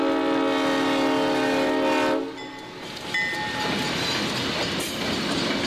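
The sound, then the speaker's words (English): A train sounds a long, loud horn blast for about two seconds, then the steady rumble and clatter of the moving train carries on, continuous, with no voices. “And we got the train to safely to platform 9 3/4.”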